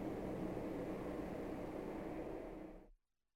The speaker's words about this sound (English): There's a helicopter going off, so we'll just wait a moment. It's amazing how much noise a helicopter makes.